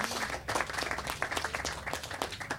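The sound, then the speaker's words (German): A festival audience applauds the festival's co-curator, Martin, after a panel discussion: a dense patter of many hands clapping at moderate volume with no pauses, sustained throughout. “Ein Applaus für Martin.”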